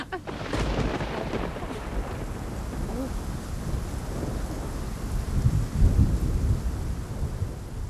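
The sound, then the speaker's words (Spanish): Steady rain pours down while deep thunder rumbles and rolls through, swelling louder near the end, with a gusty, wind-buffeted quality throughout. “¡Ay! ¡Llueve!”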